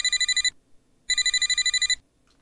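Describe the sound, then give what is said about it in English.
A telephone rings in two bursts of rapid, trilling bell pulses separated by a short pause, loud, with no voices. “Hello? Phone pickup stuff.”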